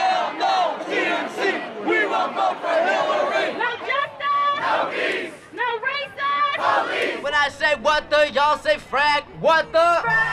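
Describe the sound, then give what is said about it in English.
A street protest crowd outside the Democratic National Convention in Philadelphia chants loudly, many voices overlapping in shouted phrases that settle into a steady, pulsing rhythm of repeated bursts toward the end. “Here in Philadelphia, the streets are alive with the sound of chanting.”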